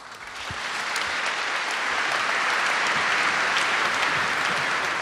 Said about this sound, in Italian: Sul lungo, insistito, applauso tributato alle sue parole, Benedetto XVI si è congedato dalla Sistina